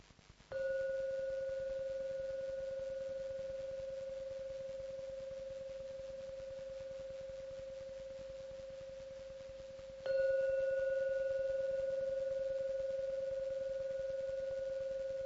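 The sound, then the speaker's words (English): A gong is struck twice, about ten seconds apart, to call people to meditation, each stroke ringing out as a steady, mid-pitched resonant hum that slowly fades, with no voices. “Now I'm going to ring the gong 3 times.”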